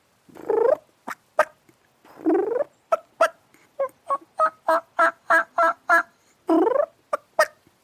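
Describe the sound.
Loud turkey calls made with a diaphragm mouth call: drawn-out raspy yelps alternate with a rapid run of sharp clucks and cutts, repeated in a lively, rhythmic sequence with no talking.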